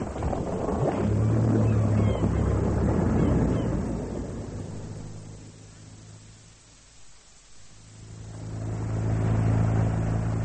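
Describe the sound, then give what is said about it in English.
A motorboat engine is started and roars loudly with a steady low drone, dips away briefly midway, then swells back up to full strength with a rumbling throb. “Start the boat”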